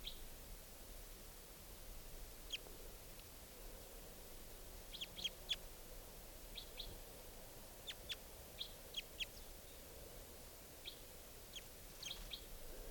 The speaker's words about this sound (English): And the bird's still here. But it's not coming down. This is the wild bird.